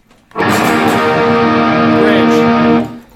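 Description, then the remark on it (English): An electric guitar on a humbucker pickup, played straight into the amp, rings out a loud, gritty chord that sustains steadily for about two and a half seconds before being cut off, alone with no talking. “Okay, so I can start with just a humbucker right here. When I'm all the way down here, I'm just straight up.”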